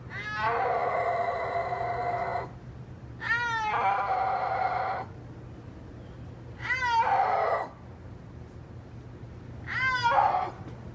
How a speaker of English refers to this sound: You might have learned this as well, but they are the only big cat that cannot roar. So like tigers roar and lions roar, but snow leopards can't roar. They make like a mew kind of yowl sound.